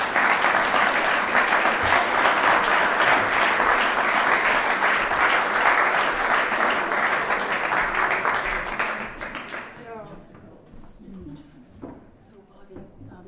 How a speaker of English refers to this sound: Give her a big round of applause, please.